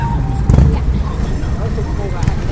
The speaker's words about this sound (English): I guess the music was coming from the motorcycle. What a noisy person. The motorcycle was playing weird music.